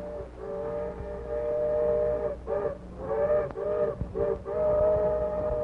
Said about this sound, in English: The Lone Ranger heard the engines whistle in the distance